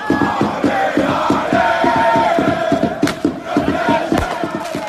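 A large crowd of PSG football supporters chants loudly in unison outside the Parc des Princes stadium in Paris in the afternoon before a match, over a fast, steady rhythmic beat of drums or clapping, with a couple of sharp firework bangs cutting through near the end.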